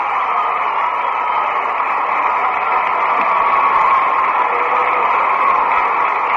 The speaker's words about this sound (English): Two out, and here's Gene Stevens, and he'll get a round of applause.